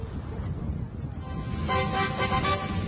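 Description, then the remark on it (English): A short, bright brassy fanfare of a few sustained trumpet notes in a K&R Auto Salvage radio advertisement rises out of a low rumbling background partway through, fairly loud. “Sound the trumpets.”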